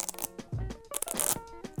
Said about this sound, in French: c'était le scratch. Pas celui du vinyle, mais celui des baskets